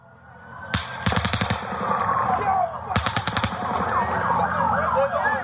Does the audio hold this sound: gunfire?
yes